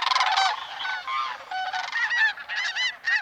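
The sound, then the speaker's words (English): A large flock of several thousand sandhill cranes calling as they fly over Boulder, a dense chorus of rolling, trumpeting calls that overlap continuously and stay fairly loud throughout, with no talking. “Last year, between October 8th and 12th, we had several thousand sandhill cranes that flew over Boulder. You'll probably hear them before you see them.”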